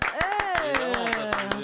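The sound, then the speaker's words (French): A short burst of audience applause: about nine sharp, evenly spaced claps in a steady rhythm, with a voice talking over them the whole time. “on m'applaudit ou pas ?”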